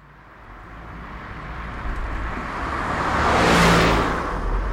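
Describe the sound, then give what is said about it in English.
A car drives along the road, a steady low rumble with tire and wind noise that swells louder near the end as it passes by. No one speaks. “We're in Perla's car. Why am I driving?”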